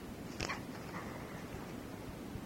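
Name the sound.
cat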